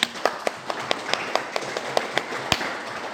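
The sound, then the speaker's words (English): An audience claps in a steady, even rhythm, sharp hand claps repeating about four times a second at moderate volume, with no talking. “Men, you should be clapping for yourself.”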